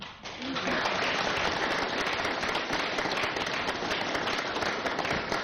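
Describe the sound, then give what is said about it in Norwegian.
Sustained applause from an audience for a volunteer of the Jostedal Helselag health association, given with flowers at its 100th anniversary, a dense, steady wash of many hands clapping at once that starts abruptly and continues at an even, fairly loud level throughout. “Dine blomsten her får du dele med alle dine i styret, men jeg vet at du jobber mange timer med frivillig på likt og ulikt, ikke bare med helselag, men mye annet, så du vel være en blomst og en klapp.”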